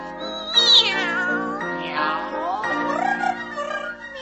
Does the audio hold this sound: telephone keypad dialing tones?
no